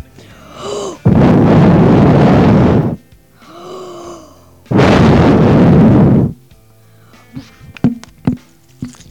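Two long, forceful blowing gusts from a person puffing hard into the microphone, imitating a wolf blowing a house down, each preceded by a short breath, then a few faint clicks and taps.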